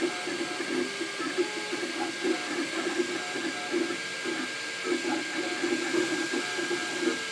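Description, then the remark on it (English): A 3D printer runs steadily while printing, its stepper motors whirring and buzzing in shifting tones with a faint ratcheting, mechanical rhythm, no voices over it. “All right, we'll just let it the recording finish with the sounds of the printer.”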